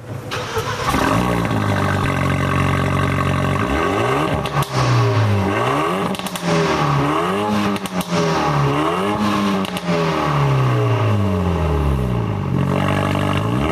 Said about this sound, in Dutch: In stilstand. Ja, maar je hoort het eigenlijk bij het starten al dat dit een auto is die is gemaakt om te rijden. En niet per se om je buren blij te maken als je 's ochtends start.